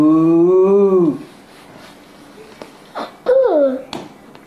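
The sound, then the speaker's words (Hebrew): A child's voice imitates a cow with a drawn-out, steady "moo" lasting about a second, followed by quiet knocks and a shorter, falling vocal sound. “פרה. איך עושה פרה?”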